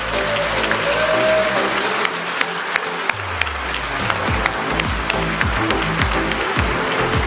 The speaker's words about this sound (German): Und den begrüßen wir jetzt mit dem herzlichen Applaus.